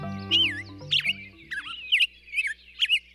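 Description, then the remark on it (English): A black-headed grosbeak sings a rich, warbling song of short whistled phrases in quick succession, clear, with a low steady hum underneath during the first second or so. “Clinton Francis is a sensory ecologist who studies how noise pollution affects birds, like this black-headed grosbeak.”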